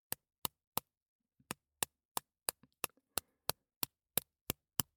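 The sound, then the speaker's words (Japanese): Sharp, crisp taps as one of two eggs has its shell cracked, repeating in a steady rhythm of about three per second, with a short pause early on and a few faint crackles between taps. “鳥さんが卵の殻を割って出てくるみたいな音がする。”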